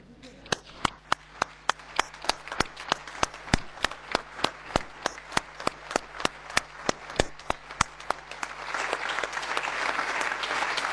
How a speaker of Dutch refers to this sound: Ik zou willen vragen of iedereen wil gaan staan, zodat een groot applaus jullie deel kan vallen.